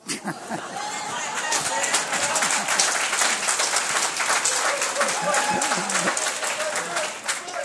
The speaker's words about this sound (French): Pourquoi est-ce qu'on applaudit quand c'est la fête de quelqu'un? J'ai aucune idée.